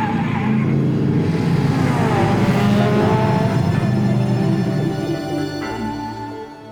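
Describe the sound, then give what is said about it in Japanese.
The engine of a modified RX-7 sports car, a Showa-era manual, roars loudly and steadily, revving with rising harmonic tones as it accelerates, then eases slightly toward the end; no voices are heard. “大丈夫、今運転してたのあいつが改造した RX7 だろうし。”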